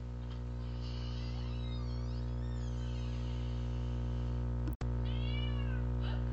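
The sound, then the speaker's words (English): A cat meows twice, a long drawn-out call followed by a shorter one after a brief sharp click, all over a steady low electrical hum. “A cat?”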